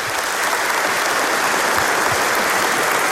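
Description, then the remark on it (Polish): Steady, dense applause from an audience at a meeting welcoming a guest from Warsaw fills the whole clip, a loud even wash of many hands clapping with no break and no voices. “Brawo.”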